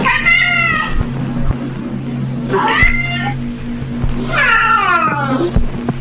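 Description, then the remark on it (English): A cat meows three times in long, drawn-out wailing cries, fairly loud, over a steady low rumbling hum. “Consider this cat.”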